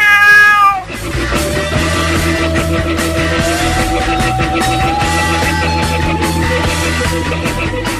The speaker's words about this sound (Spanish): Soy astuto y juguetón, y cazar un ratón es mi mayor afición. El gato.